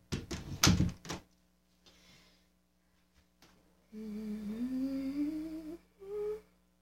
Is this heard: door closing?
yes